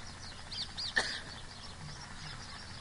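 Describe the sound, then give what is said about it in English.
Parrots call in a steady stream of chirps and squawks, one sharper, louder squawk standing out early on, set against a low background hum of outdoor ambience. “The parrots are indicating that it's time for you to say something about the dumb or about the parrots.”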